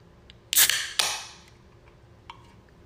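A carbonated pineapple mango hard seltzer fizzing: two sharp, bright bursts of hiss half a second apart, the second trailing off into a fading fizz, then a few faint ticks in near silence.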